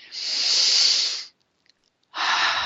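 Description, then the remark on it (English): Two long, airy deep breaths, a full slow exhale followed by a pause of silence and then the start of another deep breath, with no talking, taken during a guided deep-breathing exercise. “So I'd like everybody to take a couple of deep breaths, because deep breathing is one of the greatest ways to release old, dense feelings and energies.”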